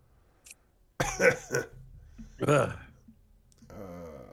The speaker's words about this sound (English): Smoking that shit. I'm coughing.